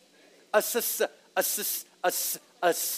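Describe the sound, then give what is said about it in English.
A voice imitates a snake's hiss, four loud, breathy hisses in a row, each starting with a short voiced sound, separated by brief pauses. “A serpent, right? Snakes.”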